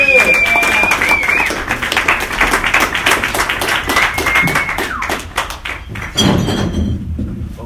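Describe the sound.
An audience claps steadily, a dense, loud patter of many hands with a high whistle riding over it. The applause thins out near the end as voices come in.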